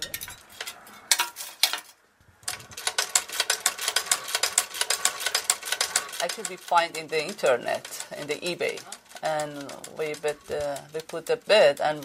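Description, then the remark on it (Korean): A 150-year-old foot-powered treadle sewing machine, not electric, clatters along in a fast, steady mechanical rhythm, fairly loud, briefly pausing before people begin talking over its fading chatter. “전기가 아니라 발로 움직이는 수동 재봉틀이죠.”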